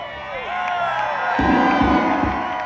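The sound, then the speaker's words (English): A large crowd cheers and whoops loudly outdoors as a solar eclipse reaches totality, a dense wash of overlapping voices and shouts that swells midway through and stays excited to the end, with no clear speech. “Controlled by UV rays, the synth gives up for a moment, but not the crowd.”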